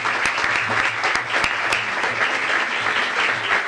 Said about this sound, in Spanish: Muchísimas gracias al coro. Un aplauso de vuelta muy fuerte para los chicos.